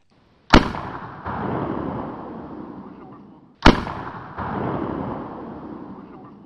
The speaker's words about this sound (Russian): Для резвящейся детворы этот выстрел раздался слишком скоро. Он оповещал, что солнце уже зашло, и счастливый выходной подошел к концу.